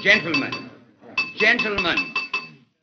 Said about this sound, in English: After cigars had been passed and lighted, and as the men of the Fourth Estate sat chatting over their demitasse, their host, Mr. Ray Long, arose and tapped on his glass.